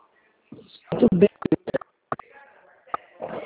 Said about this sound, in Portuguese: Olha, tá apertando os teclados aí do seu telefone e eu não tô conseguindo te entender.